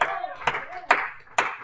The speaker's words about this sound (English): I give Him a hand clap this morning. I give the Lord a hand clap this morning.